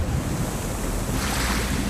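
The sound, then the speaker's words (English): Loud, churning water rushes and surges continuously as a huge sea monster surfaces from deep water with a cat on its head, swelling brighter and hissier partway through, with a wind-like roar underneath. “The sea monster surfaces with Cat on its enormous head.”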